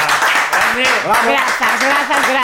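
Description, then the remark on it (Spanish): A crowd applauds steadily for a couple of seconds, a dense crackle of many hands clapping, with voices calling out and cheering over it, given as a big round of applause and thanks during a broadcast's closing credits. “o grandísimo aplauso e as grazas enormes esta vez sí que xa para a semana que ven”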